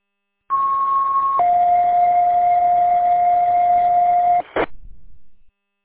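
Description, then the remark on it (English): A two-part electronic radio net activation tone, sent over the radio to alert listeners that a net is starting: a steady higher pitch for about a second, then a lower sustained tone for around three seconds, ending in a brief burst of static. No speech. “All right, that's our main activation tone. That will go off right before we start a net.”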